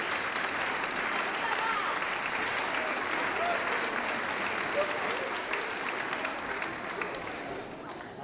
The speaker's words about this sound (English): Well, let's clap up both of them. We got to clap them both of them. Make sure it ain't the thunder button.